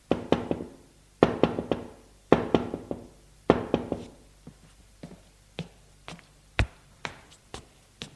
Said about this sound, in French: L'on frappe à la porte d'entrée.